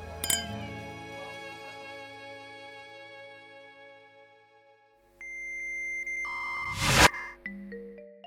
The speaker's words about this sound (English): Once we toast these drinks, the rest of the night will be perfect. Deal? To a perfect night. Cheers.